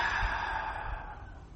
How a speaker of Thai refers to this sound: อีกครั้งหนึ่งหายใจเข้าอีกครั้งลึกๆลึกลึกอีกค้างไว้ก่อนคลายออกมา